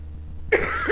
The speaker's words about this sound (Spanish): Tal vez estamos tosiendo las dos porque de tanto hablar.